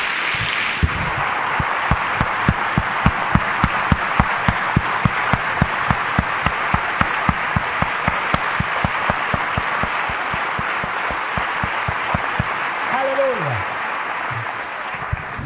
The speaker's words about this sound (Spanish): Puesto de pie, por favor. Vamos a dar un aplauso a Jesucristo fuerte por esta mesa que el Señor nos sirve en esta noche.